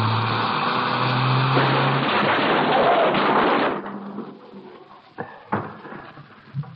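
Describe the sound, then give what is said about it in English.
A loud car crash as a car is driven into another to stop it: roaring engine and a long burst of grinding, crunching noise that cuts off after a few seconds, followed by quieter settling debris and a couple of sharp clunks. “Hang on. We're going to hit.”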